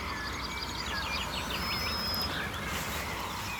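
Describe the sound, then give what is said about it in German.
Faint birdsong of golden orioles and counter-singing yellowhammers drifts over a steady low rumble of rush-hour traffic, with repeated whistled phrases and thin trilling calls continuing throughout. “Pirole sind deutlich zu hören. Goldammern, neben Kontergesang und immer noch der Berufsverkehr.”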